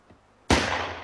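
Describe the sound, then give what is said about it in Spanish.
A single loud rifle shot cracks out after a brief quiet moment as Ennis fires his rifle at a moose, bringing it down. Its sharp blast is followed by a long, rumbling tail that fades slowly. “Al día siguiente, Ennis apunta con su rifle.”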